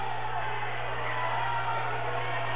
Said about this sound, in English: Possession arrow pointed to BG. I think when you hear the large amount of applause and yelling, you'll know who the possession arrow goes to. BG fans definitely a boisterous bunch tonight.